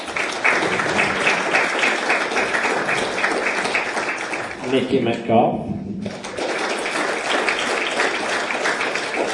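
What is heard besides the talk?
audience round of applause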